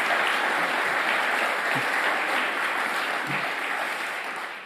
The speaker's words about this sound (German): und das tun wir doch mit einem herzerwärmenden Applaus.